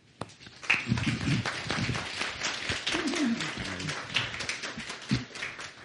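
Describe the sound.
A crowd claps steadily for about six seconds to welcome a guest speaker to the podium, a dense crackle of many hands at fairly even loudness, with a few voices murmuring faintly underneath.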